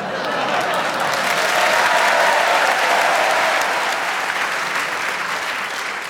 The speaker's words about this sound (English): I think that spontaneous round of applause means they want you to have an extra point, whatever happens